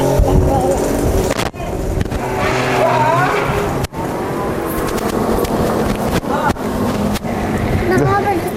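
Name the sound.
car passing by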